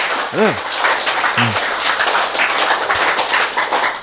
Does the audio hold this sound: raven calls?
no